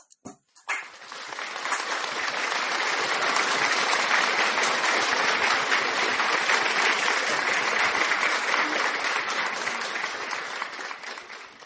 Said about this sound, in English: Ma soeur, mon frère, applaud for the Holy Ghost. Applaud, applaud, applaud pour le Saint-Esprit. Applaud, applaud. Rejoice.